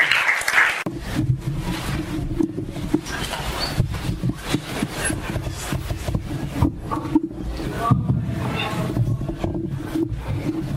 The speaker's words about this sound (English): So you can. So you can give a round of applause.